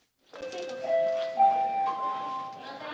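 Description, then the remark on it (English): A school bell at Lawrence North High School in Indianapolis, Indiana, plays as an electronic chime: a few sustained, bright tones that step from one pitch to another for about three seconds, with a murmur of voices underneath. “That's the bell.”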